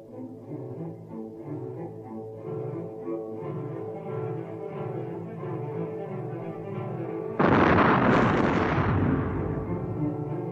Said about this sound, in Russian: Горит восток зарею новой. Уж на равнине по холмам грохочет пушки, дым багровый кругами всходит к небесам навстречу утренним лучам.